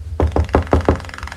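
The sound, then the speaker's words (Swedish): Five firm knocks on the green wooden front door of a small cottage in a quick, even rhythm, fairly loud, with no voices. “Och knackar på om det är någon hemma.”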